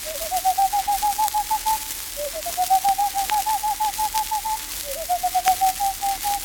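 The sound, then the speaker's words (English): A stormy petrel (Mother Carey's chicken) calls from out of the fog: three runs of quick, evenly pulsed chattering notes, each lasting about two seconds and rising slightly, repeated with short pauses. The calls are clear and moderately loud, with no talking. “The call of the stormy petrel, or Mother Carey's chicken, is heard from out of the fog.”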